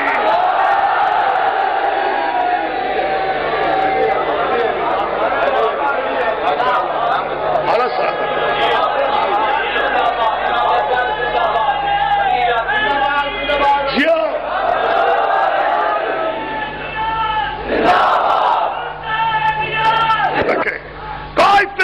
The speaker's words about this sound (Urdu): لیکن اس وقت سب مل کر حسینی نعرہ لگائے, پورے دونوں ہاتھ بلند کر کے تاریخ کا نعرہ حیدری.